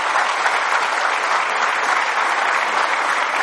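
A crowd claps steadily, a dense, even wash of many hands applauding at a consistent loudness for a few seconds with no voices over it.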